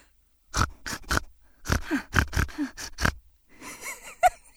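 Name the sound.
voice imitating a pig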